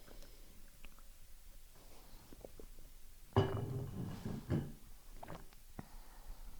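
Someone takes a sip of water, a short slurping gulp lasting about a second, framed by faint mouth clicks and soft clinks in an otherwise quiet stretch with no talking.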